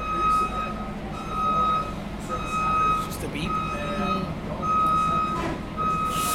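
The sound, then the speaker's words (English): A Dublin bus goes by with steady, repeating reversing beeps at a regular rhythm over a deep engine rumble, with traffic noise and faint murmuring voices in the background. “I think it is the Dublin bus. I'll just let it pass.”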